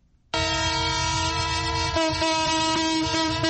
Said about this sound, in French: Ce sifflement en plein Brazzaville confirme bien l'arrivée à la gare centrale du train de marchandises qui a rallié la capitale en partance de Pointe-Noire à 510 km. Depuis 2 ans, cette scène n'a plus eu lieu.